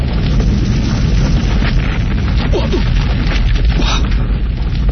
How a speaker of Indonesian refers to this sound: Pukulanku tadi seperti geledek bunyinya. Keras sekali. Dan wah. Pohon terbesi itu hangus, Mbah.